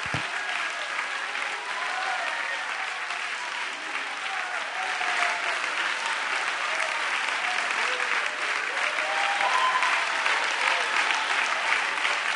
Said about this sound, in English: Now, would you lay that Bible down and give him about a 30-second thunderous Sunday evening round of applause?